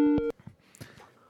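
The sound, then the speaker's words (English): A short, loud electronic phone tone signalling an incoming phone call rings out for a moment near the start, then cuts off, leaving faint, murmuring voice-like sounds in the background. “Oh shit, we have a phone call.”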